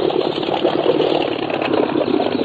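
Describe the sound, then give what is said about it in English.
A small boat engine idles steadily on a river as the boat comes around a bend, a continuous mid-pitched motor rumble with a slight rhythmic chug, moderately loud, with no voices. “On the river, just coming around the bend. A small boat.”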